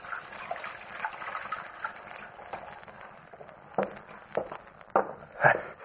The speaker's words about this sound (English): So I went into the tailor's little back room and took off my suit. I went over to the washstand, started to wash.